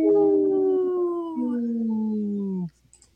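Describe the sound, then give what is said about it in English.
A single long wolf howl, loud and steady, its pitch gliding slowly downward with a small drop midway before cutting off abruptly, followed by near silence. “People that are watching this on Facebook Live or YouTube will always pull up a little wolf howling, and you know, some days that makes me laugh more than others, but today it made me laugh.”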